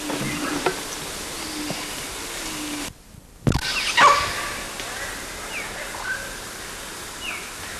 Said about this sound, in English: I think we got one of those barks. I don't know who it was though,